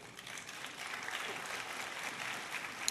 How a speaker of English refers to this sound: That was such tepid applause. Seriously. Try again.